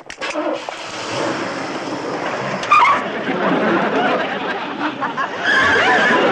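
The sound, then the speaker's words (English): A car engine cranks and catches, then settles into a steady rumbling idle with a brief surge partway through, filling the whole stretch with continuous mechanical noise. “Okay, start her up.”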